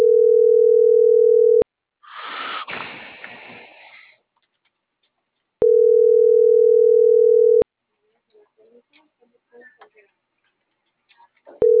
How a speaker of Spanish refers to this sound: Acá le sigo marcando todavía. No llamada normal.